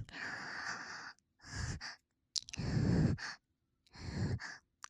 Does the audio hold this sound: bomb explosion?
no